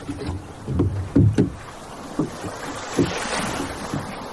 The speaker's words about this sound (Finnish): me Jeesuksen opetuslapset lähdimme soutamaan takaisin kotiin, järven yli